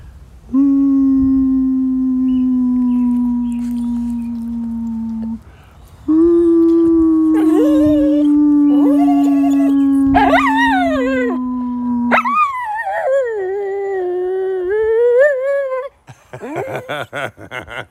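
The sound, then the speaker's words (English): A person holds long, steady howling notes, and a female dog joins in with higher, wavering howls that rise and fall, ending with a loud solo dog howl. “I could get her to howl for you if you want to hear it.”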